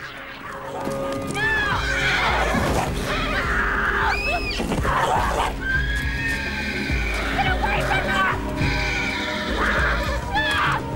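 A horse, Flicker, rears up as its rider falls off, whinnying loudly several times in shrill, wavering bursts, its cries rising and falling over a steady background of hoof clatter and scuffling movement.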